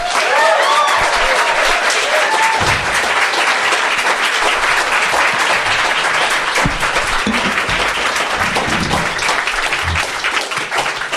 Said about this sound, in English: I am absolutely thrilled to welcome to the stage someone who I have been watching for a very long time, someone who is celebrating his fourth decade as a comedian. Would you please welcome with warm applause, Jeremy Hardy.